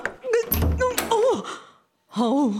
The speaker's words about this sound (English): I'm in Norfolk to help clear out some major clutter that's taken over a whole house. Here I go. I can hardly open the door.